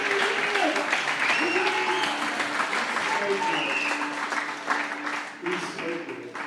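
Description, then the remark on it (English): A crowd applauds a speaker steadily for several seconds, a dense wash of clapping that stays loud throughout, with faint voices and cheers mixed in beneath it. “Come on, can we give him another round of applause?”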